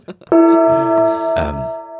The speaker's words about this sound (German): Wollen wir zur nächsten Frage kommen und willst du einen Gong einschlagen?